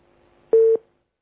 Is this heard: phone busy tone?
yes